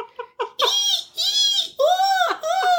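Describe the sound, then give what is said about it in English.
A voice mimics a dolphin's call: a few quick high chirps, then three drawn-out, loud squealing whistles that bend up and down in pitch, with no other talking. “You thought brr was a dolphin sound?”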